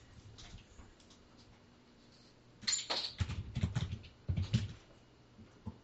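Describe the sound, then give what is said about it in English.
After a few quiet seconds, a door is pushed shut: a brief scrape and clatter followed by a couple of solid, low thuds, then quiet again. “I gotta push a door shut too.”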